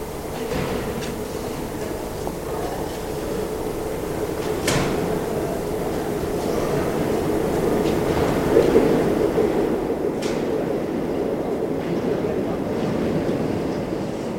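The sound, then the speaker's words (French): A continuous low rumble of a metro train fills a station platform, steady and fairly loud, broken by a couple of sharp metallic clanks, with no voices. “Une fois sorti du métro, il suit le quai pour remonter à la surface.”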